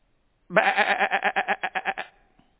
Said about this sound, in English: For years he had been used to hearing his servants talk, and now all he hears is sheep.